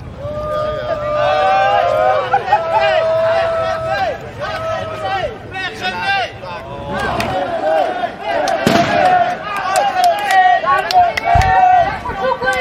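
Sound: crowd hubbub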